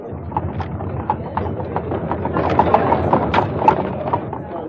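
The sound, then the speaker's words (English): Horse hooves clip-clop in a steady, even rhythm as a carriage rolls along, the sharp hoof strikes standing out over a constant low rumble of wheels on the road. “Would you be so kind as to please move that big stone out of my way so I can pass by with my horse and carriage?”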